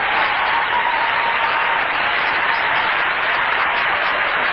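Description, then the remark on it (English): Sustained crowd applause and cheering after a call for Congress to uphold the Constitution, a loud, dense wash of clapping that holds steady without a break and went on for minutes, with no talking over it. “Now that cheering went on and on and on.”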